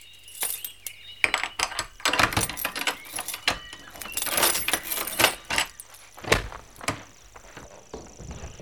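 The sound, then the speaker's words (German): Keys jangle and clink in repeated bright metallic bursts while a lock is worked, followed by faint clunks of the door of a hut opening. No one speaks. “Ich mach die Tür auf.”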